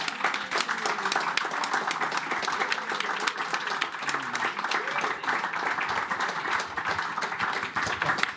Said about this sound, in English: Could I just lead a round of applause for our panel?